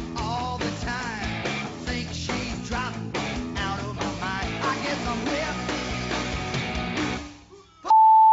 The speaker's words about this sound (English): I love being beeped.